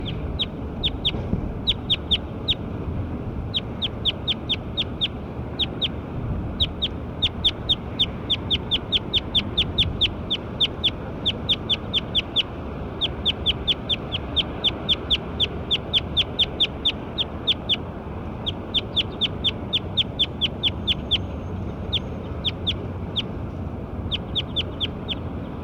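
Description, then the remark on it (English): A bird calls over and over in quick bursts of sharp, high-pitched chirps, clustered rhythmically through the whole stretch above a steady low background hum. No one speaks. “Calls the bird 09.”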